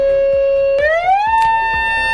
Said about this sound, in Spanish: La Xunta comienza hoy sus pruebas de activación de las sirenas de aviso a la población dentro del plan de emergencia, que no cunda el pánico porque no afecta la actividad de los vecinos que escuchen esas sirenas.